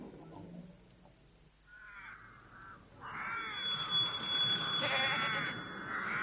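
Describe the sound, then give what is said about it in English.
Goats kept for their milk bleating: a short, nasal bleat followed by a longer, louder, wavering run of overlapping bleats, high-pitched and quavering, with no voices. “Does he keep the goats for his experiments?”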